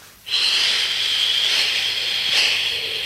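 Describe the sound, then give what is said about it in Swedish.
A long, forceful exhale during morning gymnastics, blowing out the night air with arms crossed over the chest, blown out steadily for nearly three seconds, a loud, airy hiss that starts abruptly and keeps up without pause, with no voices. “Kläm till bra och så blåser vi.”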